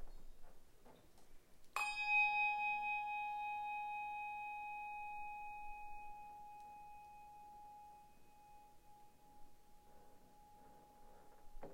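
A single bright strike of a church bell rings out before a Sunday morning church service, its clear tone lingering and slowly fading over several seconds amid quiet.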